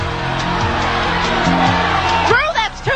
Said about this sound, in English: The crowd was screaming for you to stop at $21,962